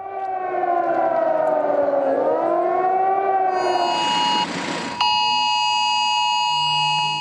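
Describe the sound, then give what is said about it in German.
A shrill emergency alert tone from a phone during a test alarm by the authorities in Germany on National Warning Day (Nationaler Warntag), a Thursday. The tone is loud and unbroken: a wavering, wailing pitch at first, a brief noisy burst, then a steady piercing tone. No one speaks. “Dieses schrille Geräusch hat viele von uns auf dem Handy erreicht an diesem Donnerstag, dem Nationalen Warntag.”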